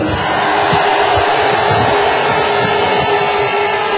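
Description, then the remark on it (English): A large crowd at the Guildhall cheers and shouts loudly and continuously for a football club, in sunshine, a dense roar of many voices with scattered whoops and yells filling the whole few seconds without pause. “Just to let everybody here know that we have two microphones because we are live on BBC Radio Devon this morning, so give everyone a big cheer.”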